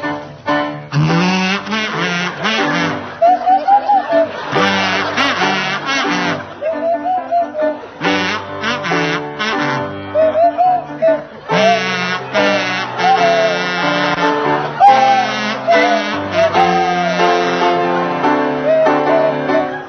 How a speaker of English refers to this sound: feature Jeremy Hardy on kazoo and Tim Brooke Taylor on Swanee Whistle.